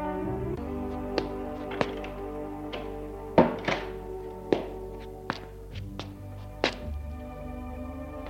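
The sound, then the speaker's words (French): A door being closed by a man after letting a woman in: a series of dull wooden thunks at irregular intervals, the heaviest one near the middle, set against a steady low humming tone, with no voices. “Il la fait entrer et ferme la porte.”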